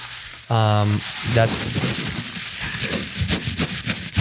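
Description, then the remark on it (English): A short voiced tone, then a steady stretch of crinkly, crackling tissue paper rustling with scattered sharp rustles as a gift is unwrapped. “That's the tissue paper.”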